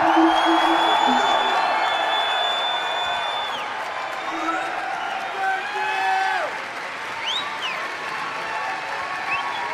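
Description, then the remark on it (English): An audience in a hall cheers and applauds, with several high whoops and shouts rising above a steady wash of clapping, loud throughout the whole stretch. “Give them a cheer!”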